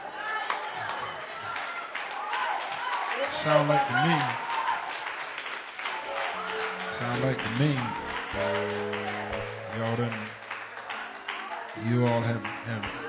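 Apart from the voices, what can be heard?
audience clapping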